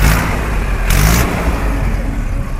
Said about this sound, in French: roule au pas au milieu d'une centaine d'autres tracteurs et de leurs remorques. Le cortège s'élance avec fracas de la frontière est de New Delhi.